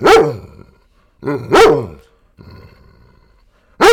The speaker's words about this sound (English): All right, that's Tucker the dog, everyone. Wait, have him do it again.